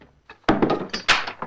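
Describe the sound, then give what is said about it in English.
A door bolt is drawn back as a door is unbolted, with a quick run of solid clunks and scrapes, five or six knocks in irregular succession, fairly loud, with no voices. “Haney unbolts the door to investigate.”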